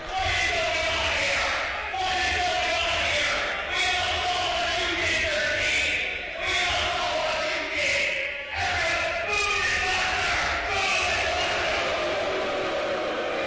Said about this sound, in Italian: Fischi del pubblico per Number 13.